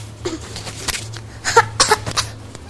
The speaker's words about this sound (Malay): Itu batuk beneran apa bohong-bohongan tuh? Bohongan.